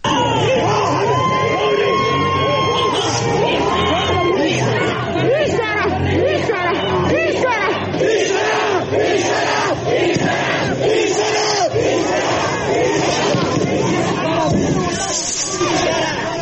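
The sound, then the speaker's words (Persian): A large crowd of protesters clashing with riot police in Kermanshah roars and yells continuously in a chaotic clash, many voices shouting over one another at a steady, loud level for the whole stretch, with sharper cries rising out of the din. “تصاویر منتشر شده در شبکه‌های اجتماعی بین معترضان و نیروهای ضد شورش در برخی از شهرها درگیری رخ داده.”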